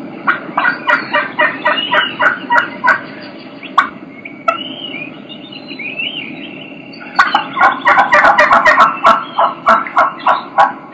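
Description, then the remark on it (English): Two wild turkey hens yelp in rhythmic runs of sharp, repeated notes, one series before a brief pause and another afterward, one voice higher and the other deeper and raspier, fairly loud. “You can hear two hens doing the exact same vocalization, but you're gonna be able to tell that they're two different hens.”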